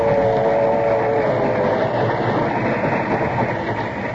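A passenger train with a dining car runs steadily with a constant, loud rumbling roar and a faint whining hum early on. The noise holds even throughout, with no voices.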